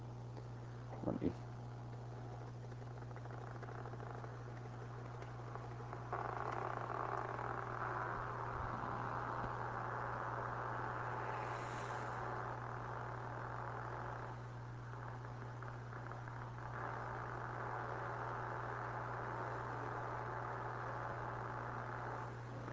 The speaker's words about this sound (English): And you'll hear the crackling you hear. The crackling is individual action potentials being recorded. So you'll hear the higher frequency when the firing rate is higher.